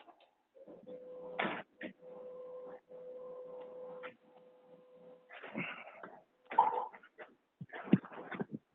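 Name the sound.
printer running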